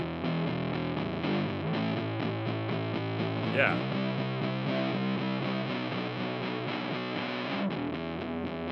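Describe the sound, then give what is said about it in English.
A heavily distorted electric guitar plays a steady chugging riff, loud and dry with no reverb tail, with the reverb turned all the way down and the distortion side turned all the way up; a man briefly says a word over it. “Here's reverb all the way down, and then the distortion side all the way up.”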